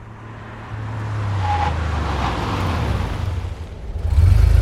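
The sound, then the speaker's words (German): A Porsche sports car engine rumbles as it is parked on a traffic island, its low drone shifting in pitch as it revs and then surges louder at the end, with no one speaking. “Sie parkte ihren Porsche auf einer Verkehrsinsel.”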